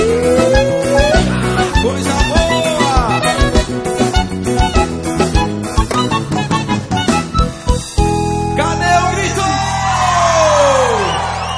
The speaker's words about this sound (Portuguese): Ei, cadê o grito aí, minha gente? Mais uma vez.